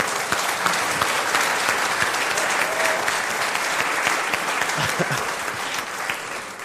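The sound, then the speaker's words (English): A church audience breaks into sustained applause for the fathers present, a dense, steady wash of many hands clapping at an even loudness for several seconds, with a faint voice or two briefly audible beneath it. “Let's give a round of applause to the dads in the room.”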